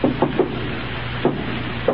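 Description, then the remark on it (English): Three quick, sharp knocks on a wooden door, then a pause before two more single raps, each dull and mid-pitched over a steady low hum, with no voices. “Who's at that door?”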